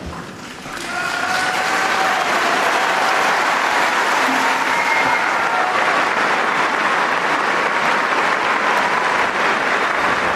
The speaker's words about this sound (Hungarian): Kedves hallgatók, a szokott módon nagy tapsviharral köszöntik a jelenlévők, és megköszönik a Szentatyának a katekézisét, továbbá pedig a jelenlévő méltóságok köszöntik a Szent Atyát.